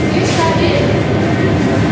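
A commuter train rumbles loudly and steadily at an RER station platform, a continuous dense roar with no pauses and faint voices blending into the background noise.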